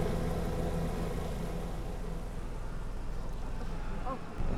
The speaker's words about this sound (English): Another helicopter! They're coming to wipe us out!